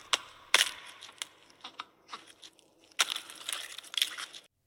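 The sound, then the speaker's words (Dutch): In a scene from Jurassic World Dominion, an oviraptor in a cave taps an egg several times to eat its contents, then the egg cracks open with a burst of crunching and crackling shell, the sharp clicks irregular and fairly loud, with no voices present. “Komt een oviraptor een grot binnen, pakt een ei en...”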